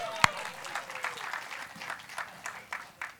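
A small audience claps for a few seconds, a dense patter of hand claps with one sharp louder clap near the start, moderately loud, with no talking over it.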